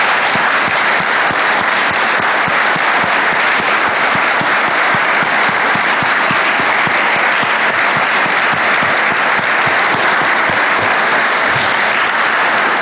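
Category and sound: crowd, round of applause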